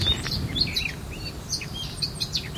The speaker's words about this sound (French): Une mésange. Deux tourterelles. Une corneille.